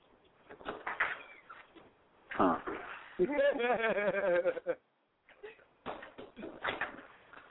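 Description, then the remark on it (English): Someone struggles to open a stuck back door of a house: a loud rattling, thudding jolt, then a long, wavering creak or strained groan. Brief talk and muffled handling noises come before and after. “I can't open the back door.”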